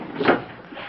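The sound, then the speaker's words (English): A woman answers the front door of a house after the bell is rung: the door opens with a single short, rustling creak that swells and fades within a second, with no one speaking. “Martha answers”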